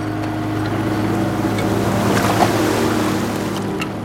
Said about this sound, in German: Die Fähre der Wieker Dampfschiffsreederei hat bei der Rixwarft abgelegt. Sie ist auf See sicherer als an der Mole.